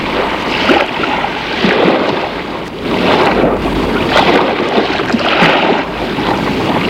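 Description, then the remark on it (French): A motorboat runs steadily on the open sea, retrieving food supplies dropped by parachute from planes; its engine drone mixes with rushing wind and splashing spray, loud throughout with no voices. “On les récupère sur la mer en bateau à moteur.”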